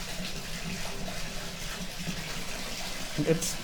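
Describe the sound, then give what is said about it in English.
Steady rush of water pouring into a bathtub being filled for a bath, with bubble bath added, a continuous even hiss that stays constant throughout, with a brief voice sound near the end. “It's bath time.”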